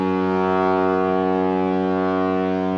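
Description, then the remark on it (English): A train whistle blows one long, steady blast for about three seconds, a loud, reedy, horn-like tone with a rich buzzing timbre and no change in pitch, with no one speaking over it. “You need to put a train whistle right there.”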